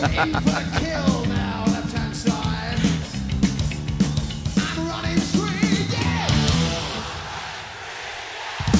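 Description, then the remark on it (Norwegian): A loud concert crowd screams and cheers continuously for several seconds, many overlapping shrill voices rising and falling over a steady low rumble that sounds like live music underneath. “For nå lengter jeg etter å se bandet gjøre den live i en 3 minutter lang versjon uten at publikum er med på noe som helst av skriking og hylling.”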